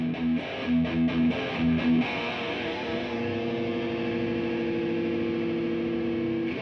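Heavily distorted electric guitar played through an amp, opening with a few chugging riff stabs, then ringing out in a thick, sustained crunchy chord. Loud, with no voices.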